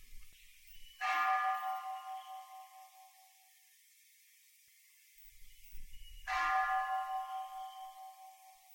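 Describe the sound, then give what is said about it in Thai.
A temple bell is struck twice during a Dhamma practice session, several seconds apart, each strike ringing out with a rich harmonic tone that slowly fades. Low rumbling precedes the second strike, and no one speaks. “ฟังเสียงระฆังแล้วดูซิจิตจะไหวสะเทือนขึ้นไหม”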